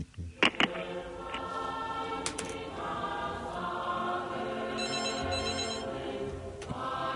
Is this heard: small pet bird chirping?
no